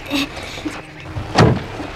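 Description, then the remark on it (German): A car door shuts with a solid thud partway through as people get in, surrounded by low rumbling and faint movement noises as the car starts to pull away. “Ja, dann fahren wir.”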